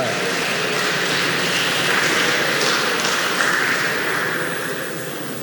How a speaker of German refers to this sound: Karlsruhe, bitte einmal nach vorne kommen. Juhu! Ein kleiner Applaus für Karlsruhe.